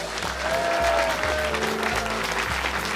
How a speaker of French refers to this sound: On vous applaudit. Merci de votre fidélité.